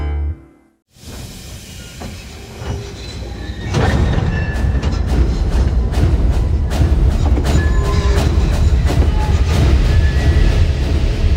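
A heavy freight train in the Australian Outback rumbles past, its low roar building after a brief silence and then holding steady, with a stream of rattling clanks and metallic clicks over the continuous rolling noise.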